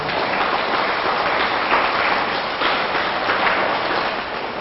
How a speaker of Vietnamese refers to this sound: Và sau mỗi một cái điều nên tránh mà thầy trình bày đó, các con hãy dành một tràng vỗ tay thật lớn rồi hít thở thật là sâu.